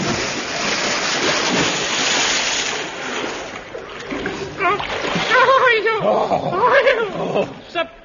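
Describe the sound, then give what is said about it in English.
A horse and rider run into tripwires and an iron girder and plunge into deep water: a loud crash and heavy splash, a roaring burst of churning spray for a few seconds, followed by agitated voices and whinny-like cries over lapping water. “What fool put tripwires and iron girder and deep water in our way?”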